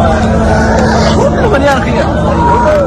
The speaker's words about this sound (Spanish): Y los gritos desesperados de los supervivientes, entre los que hay 65 heridos.